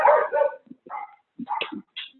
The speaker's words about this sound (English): And whoever has the puppy dogs, can you mute your phone, please?